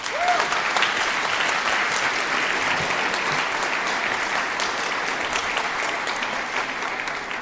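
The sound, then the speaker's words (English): An audience applauds steadily for several seconds to welcome a speaker before a talk, a dense, even wash of many hands clapping at a constant loudness with no one speaking over it. “Please give a warm applause, a warm welcome, and I'm very excited for this next talk.”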